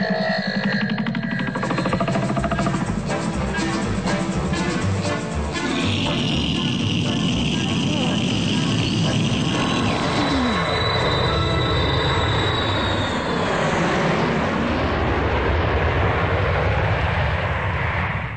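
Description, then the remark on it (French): A loud, steady jet aircraft roar fills the whole stretch, thick rumbling noise topped by a high whining tone that rises and fades midway, with no voices. “on est en 1930, il me faut un coucou, pas un avion en réaction.”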